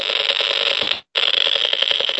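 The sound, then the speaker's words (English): A handheld microwave meter picking up a 2.4 gigahertz Wi-Fi signal gives off a loud, rapid, crackling rattle like machine-gun fire. It is a steady stream of harsh pulses that sounds like a Geiger counter, cuts out for a split second midway, then resumes. No one speaks. “So you can hear that sort of machine gun noise? Yeah, it sounds disturbingly like a Geiger counter.”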